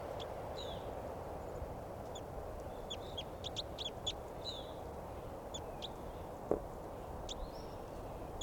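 Two birds, one numbered 387 and the other a wild adult female, trade sharp, agitated fighting calls in quick bursts of short high-pitched notes, some clustered tightly together, over a steady low rumbling background, with a single brief thump near the end.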